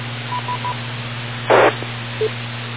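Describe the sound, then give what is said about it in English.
Three quick, evenly spaced telephone call-waiting beeps, followed by a short burst of static and one more brief tone, all over a steady low electrical hum. “I got a kind of a phone call waiting here around the side.”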